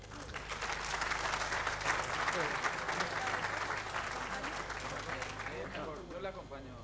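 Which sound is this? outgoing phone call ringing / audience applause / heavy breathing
audience applause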